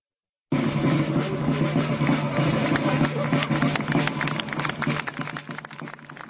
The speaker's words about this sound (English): A drumbeat from soldiers in Napoleonic uniforms and broken applause greets the unveiling at the Slavkov or Austerlitz battlefield near Brno on Sunday of a statue featuring a horse rising up at the moment it has been hit by a bullet in battle.